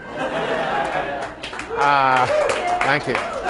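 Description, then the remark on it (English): An audience breaks into steady applause for a speaker's mention of winning prizes for playing cricket at school, a dense wash of clapping, while a voice and some laughter rise briefly over it near the middle. “You're the first people ever to applaud me for that achievement.”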